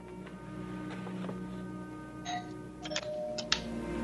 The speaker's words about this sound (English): I didn't know they had doorbells in the little house.